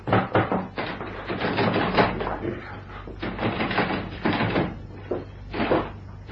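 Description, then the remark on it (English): Someone knocks repeatedly and rattles a door bolted on the inside that won't open, a series of loud thumps and jolts in an uneven rhythm, with no talking. “Seems bolted on the inside, sir.”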